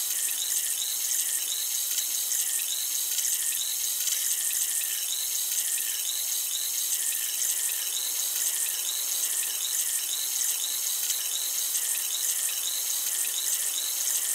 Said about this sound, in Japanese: タンタンを用いた耳洗浄をしております。この耳で弾けるシュワシュワとした音と感覚が心地いいですよね。